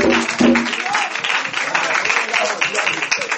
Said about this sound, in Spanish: Si es para Dios, mejor ese aplauso. Si es para Dios, mejor ese aplauso.